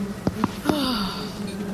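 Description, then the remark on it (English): A person makes a steady buzzing sound with the mouth, imitating bees, broken by a few short clicks before the buzz slides gradually lower in pitch. “There's bees in her mouth.”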